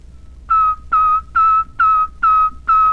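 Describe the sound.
Six short, sharply attacked whistle notes at one steady pitch, evenly spaced, each tongued like the letter T as a person practices whistling the letter T, with no talking.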